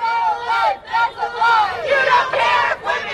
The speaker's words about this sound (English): About 40 anti-abortion protesters sang and prayed on one side of the sidewalk, while more than 200 counter-protesters shouted on the other.